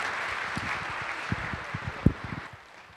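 An audience claps steadily, a dense wash of many hands with a few sharper individual claps standing out, then the applause tapers off toward the end. No one speaks.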